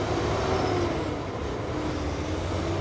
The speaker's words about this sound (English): You're hearing the constant rumble of truck traffic along I-95 near Savannah, where another important interstate also intersects, I-16. This is a major transportation logistics point along the East Coast.